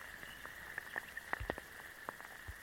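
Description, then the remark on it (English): Raindrops plink and tap irregularly, heard from inside a forest puddle in Blackheath Forest on a rainy June day, a scattered series of sharp drips over a steady, thin high-pitched hum, with no voices. “Back in Blackheath Forest, these are the sounds from inside a forest puddle on a rainy June day.”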